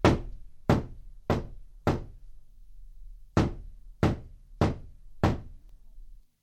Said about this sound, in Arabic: وجلست في منزلها وجعلت جاريتها على الباب، وإذا بالباب يطرق.